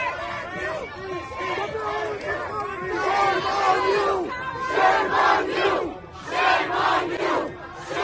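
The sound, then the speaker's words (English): A protest crowd of Palestinians and their supporters in a Jewish area shouts the chanted slogan "shame on you" in loud, overlapping voices, the yelling swelling in repeated surges with brief dips between them over a constant babble. “I love the Palestinians and their supporters shouting, shame on you, after massacring, you know, 1,200 Jews.”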